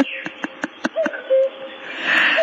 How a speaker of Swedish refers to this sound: Är det göken?